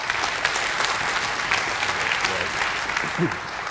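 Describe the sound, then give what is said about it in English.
A church audience gives a clap offering for the Lord, applauding steadily, a dense, even wash of many hands clapping at a fairly loud level throughout, with a brief voice murmur near the end. “Can we have a clap offering for the Lord again?”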